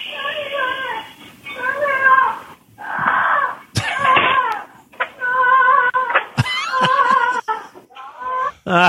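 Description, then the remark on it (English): A bird screams loudly and desperately in a string of harsh, strained, speech-like bursts, insistent, with brief gaps between the cries and no other voices. “Like, it's like, it sounds, it's there's a terrifying so much sound. Desperation in how the bird is saying it.”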